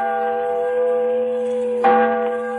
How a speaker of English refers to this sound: And the voice of a great bell proclaiming liberty.